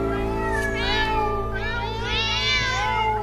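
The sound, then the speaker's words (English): A person mimics a cat, letting out a few drawn-out meows that rise and fall in pitch, fairly loud over a steady low hum in the background. “"Oh, don't let him in till it's all lapped up," somebody shouted, "meow."”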